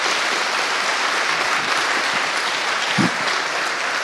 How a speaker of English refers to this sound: So, thanks, guy. I can have a little applause